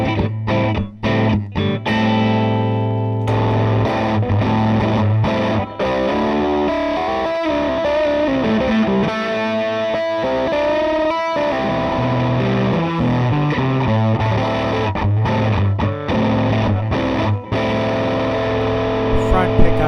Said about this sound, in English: Two humbucker guitar. Fuzz tone settings to begin with. Fuzz is not quite maxed out. Bias is about halfway. Tone is about halfway. Clean. Pickups are in the middle position.